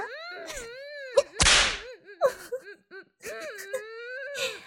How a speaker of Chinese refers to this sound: 这一鞭子啊，让我看看你的屁股翘不翘。